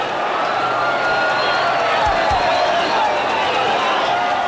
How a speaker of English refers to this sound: Led by a handful of hellraisers, the angry mob unleashes its fury on the city, destroying everything in its wake.